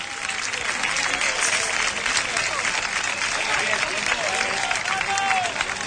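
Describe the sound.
A football crowd applauds steadily as the player Orihuela leaves the field, substituted for Pablo in a Conil match. A dense, continuous wash of clapping stays loud and even throughout, with voices murmuring and calling out beneath it.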